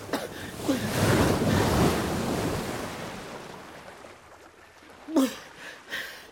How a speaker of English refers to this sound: A violent storm broke out. In the strong winds, we were shipwrecked on a large rock close to land. I swam, battling with huge waves.